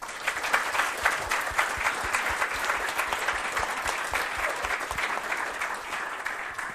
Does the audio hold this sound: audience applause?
yes